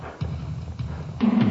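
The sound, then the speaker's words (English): Horse hooves gallop in a low, rumbling thunder as Dr. Seward and Mr. Morris ride into the fray, with a few heavier thuds breaking through and the pounding growing louder toward the end. No one speaks. “And in a great thunder of hooves, Dr. Seward and Mr. Morris rode into the fray.”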